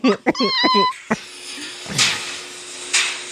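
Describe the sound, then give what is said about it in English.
A clothes dryer's end-of-cycle signal: a quick run of bright, steady electronic beep tones lasting under a second, followed by a low hum and a couple of soft rustling thumps. “That's a dryer.”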